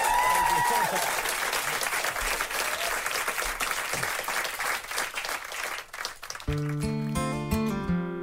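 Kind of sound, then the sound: crowd, audience applause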